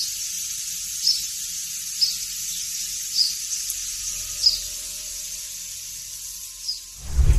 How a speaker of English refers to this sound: Three Amazon data centers sit roughly 200 meters away. I ran the audio through noise reduction software. Only then do you realize that hidden behind the drone of the data centers, there is birdsong.